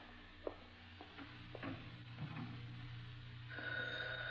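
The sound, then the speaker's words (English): A telephone starts ringing near the end with a steady electronic tone, after a few faint clicks and clatters. “Phone? Yeah, all right, we're getting it.”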